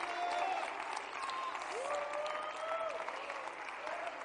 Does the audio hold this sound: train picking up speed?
no